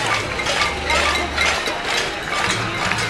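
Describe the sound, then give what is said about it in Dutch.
Pots and pans are banged continuously outside a building, a dense, metallic clatter, with bursts of bright clinking rising and falling over a low rumbling hum. “En af en toe dan staakt het pannengeratel om het woord te geven aan een speech in de centrale hal.”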